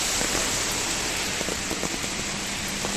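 Heavy rain pours down steadily in the early morning in the Madrid region, Spain, in a dense, constant hiss, with scattered drops and splashes standing out against the continuous wash of water. No voices are heard.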